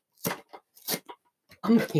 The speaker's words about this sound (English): I'm ripping the box apart. I'm ripping the box.